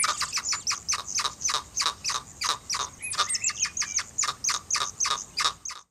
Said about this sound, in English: All right, let's go to another animal now. This is a hyrax. And before we talk about what it is, for people listening, see if you can guess what it is.